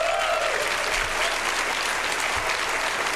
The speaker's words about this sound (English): You're watching Apple's round of applause from the developers. Yeah, well, it sounded bigger than looking at it.